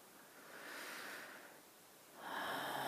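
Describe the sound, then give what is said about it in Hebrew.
Slow, deep breathing during a guided breathing exercise: a long airy inhale followed, after a brief pause, by another breath starting, soft and unhurried with no talking. “עכשיו בואו פשוט שוב ניקח כמה נשימות יותר עמוקות, יותר ארוכות.”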